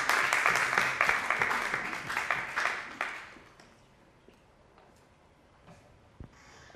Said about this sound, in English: I'm not happy with applause unless it is for the Lord. And when we do clap, when we do clap, it's because we want to do something for the Lord.